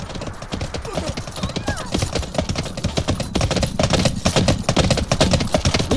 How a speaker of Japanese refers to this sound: 馬の足音。